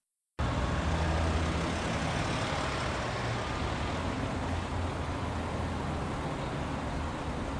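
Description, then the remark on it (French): Steady, dense roar of street traffic with many cars and scooters, rumbling engines and passing vehicles, a continuous wash of motor noise filling the scene at moderate loudness, with no voices. “La rue est maintenant bruyante.”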